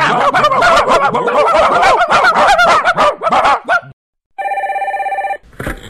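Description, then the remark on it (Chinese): A loud, chaotic jumble of animal-like squawks and barks runs for a few seconds, then breaks off into a steady, rapidly pulsing electronic telephone ring lasting about a second, ending with a short noisy burst. “喂，是铃声下载中心吗？下载一条多少钱呢？”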